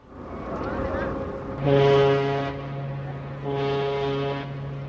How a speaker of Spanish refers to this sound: Justo cuando subí a la cubierta del barco, el sonido de una fuerte bocina y un silbido, similar al de un caballo, resonaron en el oscuro muelle.